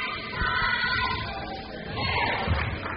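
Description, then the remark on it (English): Scattered, uneven claps from travelling SF State fans ring out during a basketball free throw at a game against Dominican in the North Bay, over a steady wash of murmuring and arena noise, with no clear rhythm and a few sharper hits toward the end. “And we hear some claps behind us from the SF State fans that have traveled to the North Bay tonight.”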